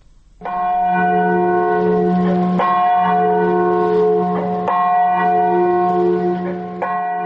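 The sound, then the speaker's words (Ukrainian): The deep Katyn memorial bell near Smolensk tolls steadily in memory of Polish officers killed by the NKVD in 1940 and of the 96 who died in the Smolensk air crash, each loud strike arriving about every two seconds and ringing on with long, humming overtones that overlap the next stroke. No voices are heard. “З 10 красовика минулого года Катинський дзвон нагадує так само об трагічній смерті 96”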